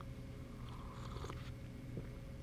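Someone takes a few quiet sips of hot coffee brewed that morning, soft slurping mouth sounds over a steady low background hum, with no talking.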